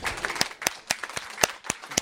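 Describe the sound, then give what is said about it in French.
Applause from an audience at a prize presentation for the student category of a micro-fiction award, heard as sharp, evenly spaced claps in a steady rhythm, roughly four per second, fairly loud with no voices over them. “Applaudissements.”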